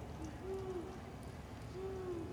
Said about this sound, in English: It's just an owl, you dumb bitch. No, it's not.